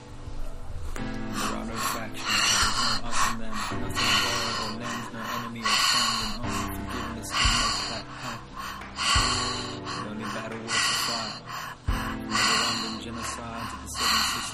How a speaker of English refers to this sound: You're breathing through the mouth.